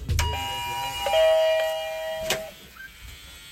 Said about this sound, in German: Nach Momenten der Anspannung ertönt das leichte Summen. Ein ungeduldiger Anwohner öffnet uns ohne Nachfrage die Haustüre.